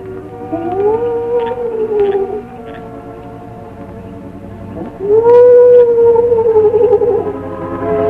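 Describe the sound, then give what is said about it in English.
Two long, low, mournful owl cries heard through the night, each wavering and gliding for about two seconds, separated by a pause of a few seconds, over a steady low background rumble. “At regular intervals, he paused, and the low, mournful cry of the owl was heard through the night.”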